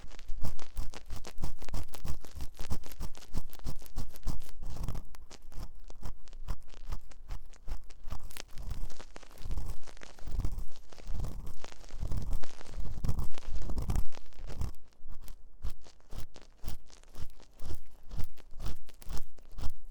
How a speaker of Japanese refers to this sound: 勝手に私をかわいそうな人扱いする君には。 お仕置きの耳かきだ。